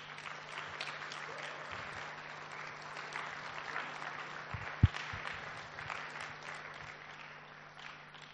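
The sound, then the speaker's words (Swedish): An audience applauds steadily, a dense wash of many hands clapping at an even level throughout, with one brief sharp knock partway through and no one speaking. “och så ger ni honom en applåd.”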